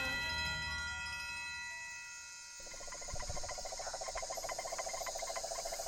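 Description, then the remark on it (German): A dense nighttime chorus of frogs, crickets and birds heard from a canoe in the darkness of night, with steady high insect trilling and a pulsing, rhythmic frog call that swells in about halfway through, loud and continuous with no voices. “Ich sitze im Kanu in der Schwärze der Nacht und lausche. Das Konzert der Frösche, Vögel und Grillen, so mächtig.”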